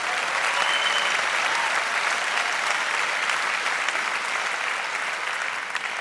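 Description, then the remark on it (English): A crowd applauds steadily, a dense, even wash of clapping that holds at a strong level for about six seconds without fading, with no voices standing out. “Yeah, sure, applaud.”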